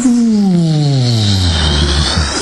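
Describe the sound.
A voice imitates a washing machine winding down, a steady loud hum whose pitch glides smoothly lower over a couple of seconds, with a breathy hiss on top and no pauses.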